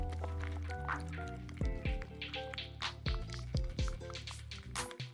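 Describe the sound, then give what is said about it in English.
Wet, squelchy stirring of a thick homemade toothpaste mixture with coconut oil in a bowl, soft sticky squishes repeating unevenly, with steady background music playing underneath. “Just keep mixing them, the coconut oil will start to blend together.”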